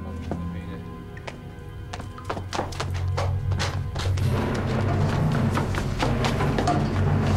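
A woman's footsteps hurry down wooden stairs in a quick, uneven series of hollow thuds that grow busier and louder toward the end, over a low steady rumble.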